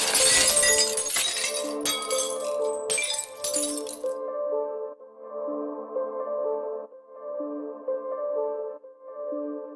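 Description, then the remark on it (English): A wine glass shatters loudly, a bright crash of breaking glass lasting a few seconds, caused by the sound of a singer's voice reaching the glass's natural frequency, over a steady sustained tone that carries on alone after the shards settle. “As a result, all the energy in the sound of the singer's voice is transferred to the glass, and it shatters.”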